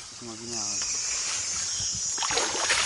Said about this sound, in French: Voici donc le ruisseau. C'est ici que Guillaume Benham et ses camarades tamisent le gravier.